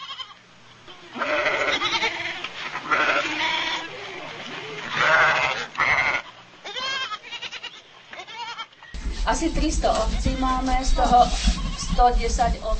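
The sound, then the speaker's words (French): A flock of about 300 Romanov ewes, a breed originating from Russia, on a farm in the Czech Republic bleats continuously, many overlapping wavering calls; partway through, a low rumbling background hum joins as the bleating carries on. “la seule en République tchèque à élever les brebis de race Romanov, originaire de Russie”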